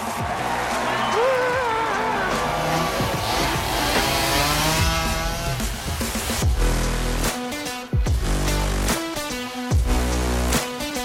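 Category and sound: tool, chainsaw revving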